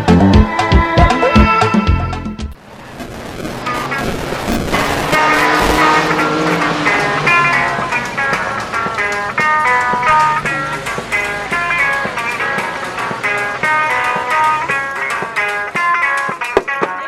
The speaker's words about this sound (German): Every day on the streets of Harare. Jeden Tag kämpfen im Straßenlärm von Harare, der Hauptstadt Simbabwes, Autos und Musiker um die Aufmerksamkeit von Passanten. Fast alle Straßenmusiker sind blind.